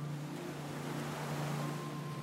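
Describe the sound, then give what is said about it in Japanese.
Gentle ocean waves of a wide, quiet winter sea wash in a soft, steady hush with no distinct breaks, joined by a low, constant hum underneath. No one speaks. “耳を澄ますと穏やかな波の音が聞こえてきます。”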